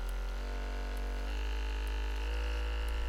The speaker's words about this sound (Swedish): Nej, det här, vet du vad det är? Nej. Det är en sån här muskelpistol som man masserar musklerna med.